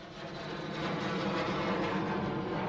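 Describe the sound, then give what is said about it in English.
A purple jet plane roars in, its broad engine rumble swelling louder over a couple of seconds as it approaches, with no voices. “That sounds very much like the purple jet.”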